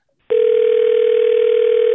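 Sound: telephone dial tone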